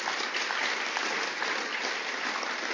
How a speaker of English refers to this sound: We've got a fantastic team. Big time. Give them a clap.